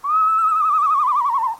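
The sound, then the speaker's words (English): An eastern screech owl gives a single clear whinny: a loud, high whistled note that slowly descends and breaks into a quavering tremolo toward the end, with no other sounds. “They sound like a horse. Like the eastern screech owl.”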